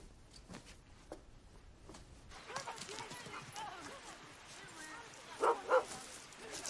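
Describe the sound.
A dog gives two quick, sharp barks near the end while someone plays with it outside, following a stretch of quiet outdoor bustle with faint voices and soft knocking sounds.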